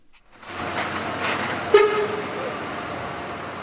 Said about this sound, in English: A truck driver eases his semi along the off-ramp of the Greek car ferry Ionian Spirit, which has been pressed into emergency service plying the Gulf of Sirte to save thousands of civilians from their life-threatening situation.